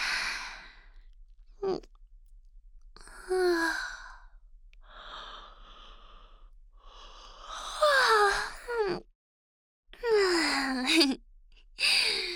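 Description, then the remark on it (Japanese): A big, drawn-out yawn from someone sitting in a kotatsu in winter: several breathy exhales and sighs, some voiced with a falling, gliding pitch that swells louder near the end. No one speaks. “おっきなあくびしちゃった。”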